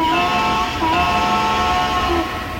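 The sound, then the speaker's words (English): A steady, loud rumble of a train running along the tracks, with sustained tonal whines and squeals layered over the continuous rolling noise, with no one talking. “45 minutes de roulement de train, de pistons à vapeur, de clochettes et klaxons, et de musique inspirée par le chemin de fer.”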